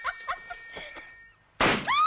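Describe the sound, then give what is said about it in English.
Balloons worn as fake breasts being punctured: a few soft, quick pops and rustles, then one loud bang that trails into a brief high squeal. “punctures the balloons it's been using as breasts.”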